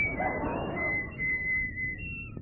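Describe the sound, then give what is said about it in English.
A thin, steady whistle from air blown down a ship's engine room voice pipe with its bung taken out, holding one high pitch with slight wavers over a breathy rushing hiss for a couple of seconds, with no talking. “You just take that bung out and blow down it. It makes a whistle sound below.”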